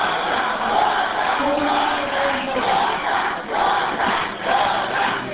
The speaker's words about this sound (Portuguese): Foi aí que os ânimos começaram a se exaltar. O público presente pedia aos gritos que a matéria fosse votada nesta terça.